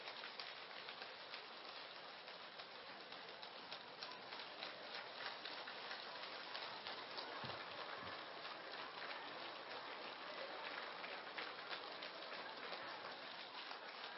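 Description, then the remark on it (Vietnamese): A long, steady round of applause from a large crowd of Buddhist followers welcoming the teacher into the lecture hall: dense crackling clapping that holds at an even loudness for the whole stretch, with no voices rising above it. “Sau hai tháng chờ mong, xin các vị cho một tràng pháo tay để cung đón Thầy quang lâm giảng đường.”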